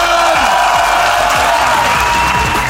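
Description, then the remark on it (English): A loud, dense wash of crowd applause with cheering and whoops for guest Rob Brydon, sustained throughout at a steady level, sounding full like a live audience. “Ladies and gentlemen, give a massive round of applause, Rob Brydon!”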